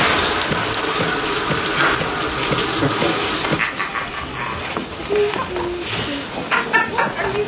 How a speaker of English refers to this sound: The shower. And a little camouflage noise.